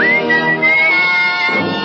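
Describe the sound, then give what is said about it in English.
A person whistles along with a program's theme music, a single sustained tone holding steady over the dense musical backing, the whistle riding high and clear above the instrumental harmonies, moderately loud. “I'm just whistling along with it.”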